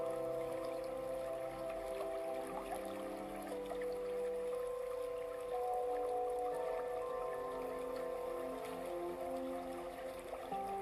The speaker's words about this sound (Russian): Когда будете готовы, постепенно, делая плавные шаги, выходите из потока водопада, оказываясь в мелких брызгах, и еще шаг.